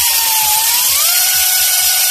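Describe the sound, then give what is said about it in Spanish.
Chainsaws of wildfire brigade crews whine loudly and steadily as they cut defensive firebreak lines to control a fire, the pitch climbing briefly as they rev under load, with rough mechanical rattling beneath and no voices. “Es el sonido de las motosierras de los brigadistas que realizan líneas de defensa para controlar el fuego.”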